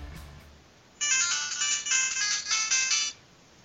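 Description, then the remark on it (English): A bright, electronic Android phone ringtone plays for about two seconds, a loud, tonal melody with a slightly pulsing rhythm, clear with no talking over it. “I love you, Android phone.”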